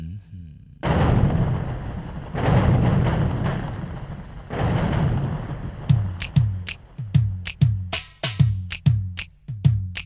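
Three deep, rolling rumbles like thunder swell and fade one after another, followed by a quick run of sharp, regular booming cracks that repeat about three times a second.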